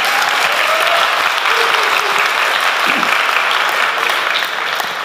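A crowd claps steadily and loudly for about five seconds, a dense, even wash of applause that fades slightly at the very end.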